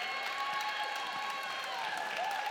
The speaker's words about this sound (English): We'd also love to clap and celebrate you.